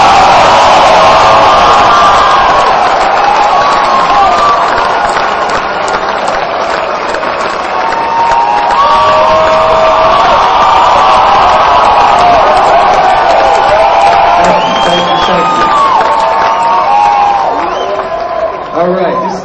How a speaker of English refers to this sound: All right, ladies and gentlemen, you ready to start the second half of this show? Yes, great. Ladies and gentlemen, big round of applause for my friend Mitch Hedberg!